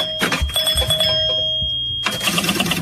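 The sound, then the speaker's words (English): Pinball machine sounds: a steady high electronic tone with a lower hum, clattering knocks and rattles, then a sudden burst of bright chiming bells near the end. “That's a pinball machine.”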